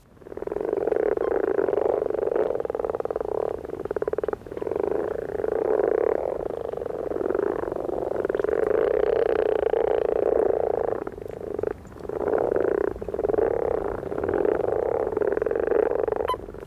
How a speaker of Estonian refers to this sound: Ja nõnda nurruvad rohukonnad.